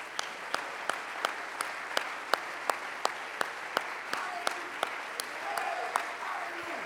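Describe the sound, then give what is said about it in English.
An audience in a church claps hands together in a steady, even rhythm, roughly three claps per second, the unified beats ringing out clearly over a faint background murmur of voices. “Go ahead, clap your hand.”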